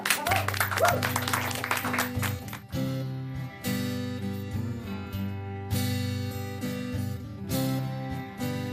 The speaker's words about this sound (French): Merci. Applaudissez-vous.